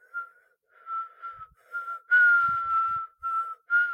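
Someone whistles a steady tune of several sustained notes with short breaks between phrases, growing slightly louder and breathier toward the middle.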